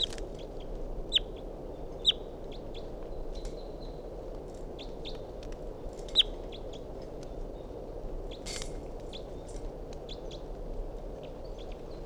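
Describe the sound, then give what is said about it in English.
A wild bird calls in short, high chirps and whistles, scattered irregularly with a few sharper, louder notes, over a steady low background hiss. No one speaks. “So recording a wild bird.”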